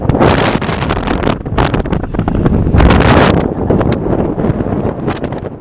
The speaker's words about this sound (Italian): A quell'ora, a 3000 metri, le condizioni infatti non sono il massimo, sta già calando quasi la sera, c'è quasi la bufera, sentite un po' che vento.